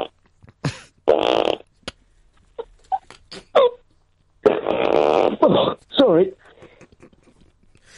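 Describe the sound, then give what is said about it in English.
An old man blows his nose loudly twice, a short rough honk followed later by a longer, sputtering blow, with a brief spoken apology and a few small clicks between. “No one wants to listen to an old man blowing all day long.”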